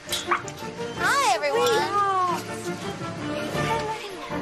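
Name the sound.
dogs barking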